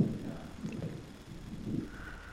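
Low, rolling rumble of thunder swelling and fading over a couple of seconds, with a soft steady hiss and a faint higher hum creeping in toward the end. No voices.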